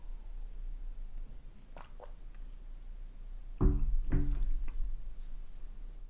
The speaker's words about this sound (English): So just give me a moment here. Just going to take a drink of water. You might hear me.